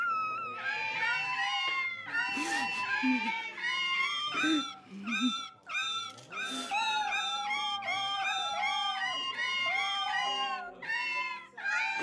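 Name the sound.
cats yowling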